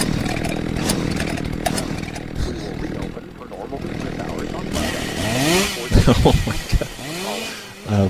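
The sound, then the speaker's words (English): A chainsaw used for chopping down trees at a house drones loudly and steadily, its pitch wavering as it revs, while a voice talks over the noise toward the end. “Get this chainsaw going here.”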